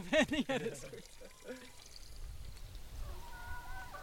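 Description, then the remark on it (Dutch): A brief voice at the start, then water pours steadily into a glass in a garden, a soft splashing with a faint rising ring toward the end. “Ja, ik wil ook wel water als je toch water had.”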